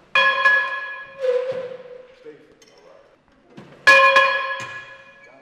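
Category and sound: signal or alarm, bell being rung repeatedly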